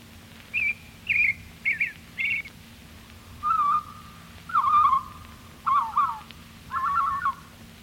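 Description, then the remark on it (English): A robin sings a series of about eight short, clear whistled phrases separated by brief pauses, the first few higher-pitched and the later ones lower, over a faint steady background hum. “Robin.”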